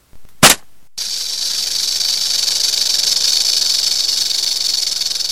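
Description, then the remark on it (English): A single sharp pop is followed by a loud, steady snake hiss that starts abruptly and continues unbroken for several seconds, with no voices, as a staff thrown on the ground becomes a snake. “You see that your staff has become a snake.”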